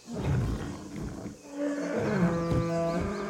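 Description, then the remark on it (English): A huge white beast lets out a long, loud screaming roar, starting as a guttural rumble and rising into a sustained, tonal bellow that echoes through a mire. “The beast's scream echoed through the mire, almost knocking Red back on her heels.”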